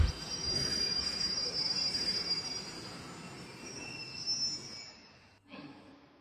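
A train's brakes squeal as Suneo pulls the brake: a sustained high-pitched metallic screech over a dense rumble of rolling wheels, fading out abruptly near the end as the train stops, followed by a brief low thump.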